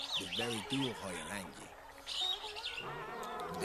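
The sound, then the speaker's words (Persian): Birds chirp and tweet steadily in the ambience of the Laylun forests, their high calls running throughout while a voice speaks over them near the start. “اینجا جنگل های لایلون است.”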